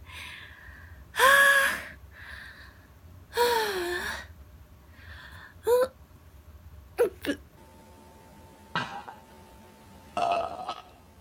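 About six voiced burps come one after another at uneven intervals, fairly loud, the first two long and drawn out, the later ones shorter and sharper, with quiet pauses between.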